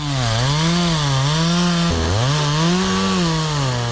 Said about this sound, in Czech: Proizvodila ga je motorna testera u rukama čovjeka koji je pilao stare željezničke pragove.